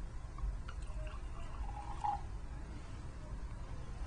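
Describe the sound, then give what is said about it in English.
Wine trickles and splashes softly from a bottle into a glass as the bottle is turned counterclockwise, a quiet pour with a few small drips and a brief gurgle partway through, over low background rumble. “Minimize drips by turning the bottle counterclockwise as you pour.”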